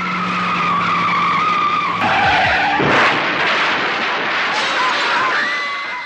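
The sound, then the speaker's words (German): A Mazda RX-7 sports car roars at high speed, about 120 km/h, straight into a cul-de-sac, its tires squealing in a long, loud skid with sustained screeching tones and a sudden harsh burst midway, intense with no talking. “Mit vollem Tempo hinein in die Sackgasse, in der die rund 50 Teenager zwischen ihren Autos eigentlich eine ausgelassene Sommerparty feierten.”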